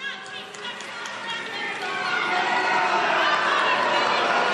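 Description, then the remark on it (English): A crowd of protesters yells in a dense, continuous wash of overlapping voices that grows steadily louder over several seconds, with no single voice standing out. “Protesters yelling in the background.”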